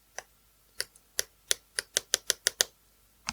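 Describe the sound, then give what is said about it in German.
A pen with its tip retracted taps and clicks against the surface of a new device to test whether it works with a pen, about a dozen sharp ticks, spaced out at first, then a quick rapid run before a final pair, with no talking. “Kannst du das neue Gerät mit dem Stift benutzen? Ich teste es aus. Nimm einen Stift.”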